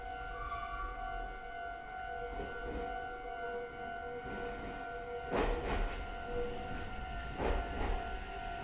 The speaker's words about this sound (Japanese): 12分の発車です。反対電車到着までしばらくお待ちください。